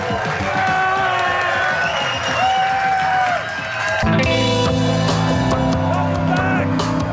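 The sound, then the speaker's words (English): A crowd at Smoke Jack Barbecue in Alpharetta, Georgia applauds and cheers in a loud, continuous wash of clapping and voices, with steady musical tones rising over it in the second half. “I am blown away by this crowd. Unbelievable. Thank you very much.”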